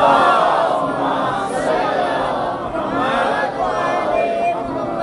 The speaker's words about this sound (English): If you love Ahlul Bayt, send a loud salawat. If you love Islam, send a loud salawat. If you want to uphold the practices of Ahlul Bayt, send a loud salawat.